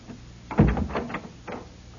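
door opening

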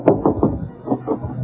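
knocking on a door

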